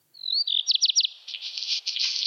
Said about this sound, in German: Und zwar ist der erste Kandidat der Hausrotschwanz. Ich spiele den Gesang nochmal ein. Vielleicht erkennt ihr das wieder aus diesem kleinen Intro-Song.